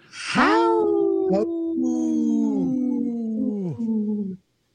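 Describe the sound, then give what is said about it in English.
Dallas Goldtooth imitates a wolf howl as a radio tag: one long, loud wail that starts with a sharp rise, then wavers and slowly sinks in pitch before cutting off, with no talking. “every time I hear Dallas Goldtooth do that for us.”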